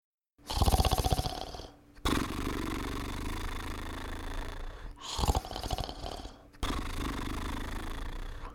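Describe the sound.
A voice imitates snoring in a cave: two rattling, buzzy inhales, each followed by a long breathy exhale. The snores are moderately soft, with no talking.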